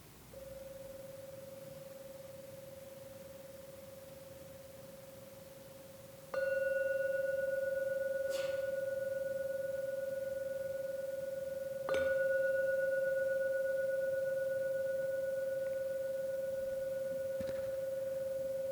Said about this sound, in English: I'm now going to ring the gong 3 times. Please listen to every sound from the gong. And only when the 3rd ringing of the gong fades away, only then come out from your meditation. At the end of the 3rd ringing of the gong.